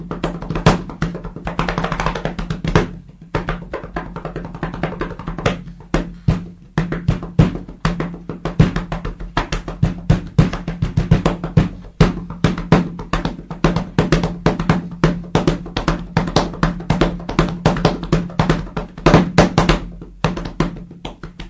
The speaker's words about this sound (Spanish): A ver si puedes tocar una mesa. Es una improvisación, entonces. Claro. En la mesa. Increíble.